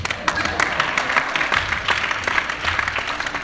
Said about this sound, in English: Amen. Amen. So you clap.